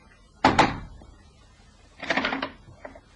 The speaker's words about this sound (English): He walked to the house off Hanover Square and knocked twice on the door.